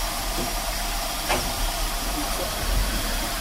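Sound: steam locomotive hissing steam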